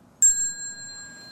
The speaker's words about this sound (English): Prepare to stand up. We'll get there. And with the next bell, please stand.